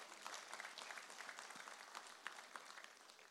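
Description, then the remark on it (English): A church audience claps their hands to celebrate Jesus in a steady, dense wash of applause, many hands clapping together for a few seconds with no one speaking. “Someone celebrate Jesus with a hand clap.”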